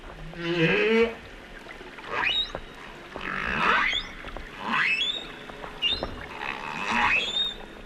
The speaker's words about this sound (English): A chorus of humpback whale sounds captured by underwater microphones off the New South Wales south coast is giving researchers a brand new understanding of whale migration patterns. Here's a little sample.